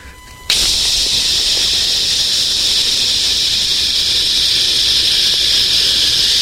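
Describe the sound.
A voice imitates a Lysol aerosol spray can with one long, steady, bright hiss that starts abruptly after a brief pause and holds at an even, loud level to the end, with no words.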